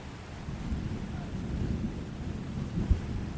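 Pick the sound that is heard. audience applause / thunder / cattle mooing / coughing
thunder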